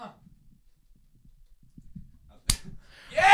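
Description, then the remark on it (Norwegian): A single sharp high-five hand slap, struck against a flat hand held up at 90 degrees, cracks out loud and bright, followed by a brief rustle and a louder burst of noisy movement or voices at the end. “Jeg er klar til å få en high five.”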